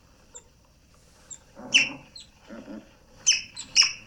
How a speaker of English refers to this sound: Is it like wiping glass with Windex?